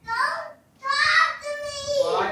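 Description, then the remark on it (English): Two young daughters yelling down the hall as they get ready for bed, in shrill, high-pitched bursts: one short shout, a brief pause, then a longer wavering cry that slides downward at the end. Loud and strained, with no adult talking over it. “I am sitting down the hall from my kids who are yelling in the background.”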